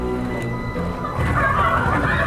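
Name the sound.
chickens clucking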